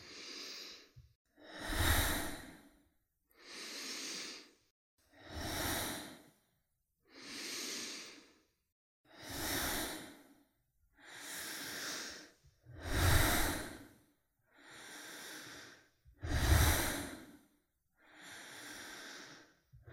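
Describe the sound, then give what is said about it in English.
Deep, full breaths drawn in and pushed out in a slow, steady rhythm during a guided breathing exercise, about ten breath sounds in all, clearly audible with short pauses between them and no talking. “Three more full breaths just like this.”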